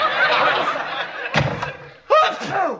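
A single loud, abrupt sneeze with a sharp, voiced burst that trails off, following a stretch of audience laughter and a brief thump.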